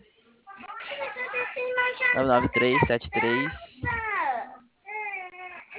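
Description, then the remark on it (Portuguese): A baby babbles in a string of high, warbling vocal bursts with rising and falling pitch, fairly clear, pausing briefly before a final short coo. “Olha o neném aí, ó. Tá vazando lá.”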